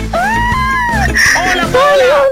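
A woman lets out high, sustained excited shrieks and squeals of joy on learning she has won a BYD electric car, loud, with rising and falling pitch over about two seconds.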